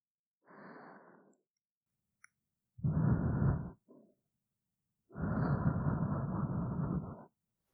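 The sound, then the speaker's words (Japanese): Three breathy exhales blown straight into a microphone as a mic check: a soft short one, then a louder, rougher gust, then a long sustained breath, with pauses of silence between. “こちらも吐息の確認しましょうか。”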